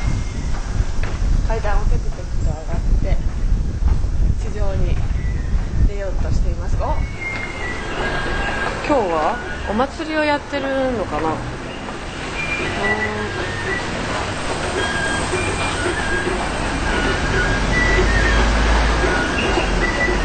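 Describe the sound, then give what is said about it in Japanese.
Steady roar of traffic at the intersection of Eitai-dori and Kiyosumi-dori, broad streets of four or more lanes outside a station's Exit 5, with engine rumble and several high, wavering brake squeals rising above the constant hum, and faint voices in the background. “どちらも4車線以上ある大きな通り。車通りはあるのですが、あまり高い建物もなく、どこかのんびりとしていて都心とはまた違う雰囲気が流れています。”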